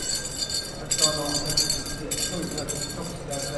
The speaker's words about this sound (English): At the Kiayo Powwow in Missoula, the corridors of the Adams Center Auditorium are echoing with the sounds of jingle dresses as family members reunite and dancers prepare to compete.